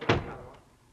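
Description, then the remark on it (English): A single door shuts with a firm thud, followed by a short fading resonance and a faint click, heard alone. “Close the door, MacDonald.”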